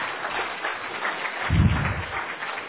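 A round of applause for a committee chair and his committee's work: many hands clapping in a dense, steady patter that fills the whole clip, swelling briefly in the middle with a low thump before settling back. No one speaks.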